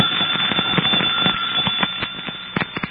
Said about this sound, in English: a perfectly innocent person might press the doorbell and set the fire going. Precisely the point of this demonstration, Inspector.